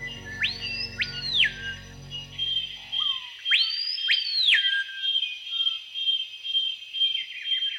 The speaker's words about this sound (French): Il y a un oiseau. Mais il n'y a pas dans les lettres de notre alphabet de quoi écrire le cri de cet oiseau.